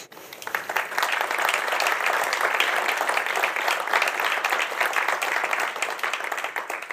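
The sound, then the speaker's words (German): Steady applause from an audience at a book event welcoming two authors onto the stage, a dense patter of many hands clapping at an even, fairly loud level for several seconds, with no voices standing out. “Na komm, 2 Meter könnt ihr noch klatschen.”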